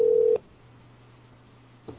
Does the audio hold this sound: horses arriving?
no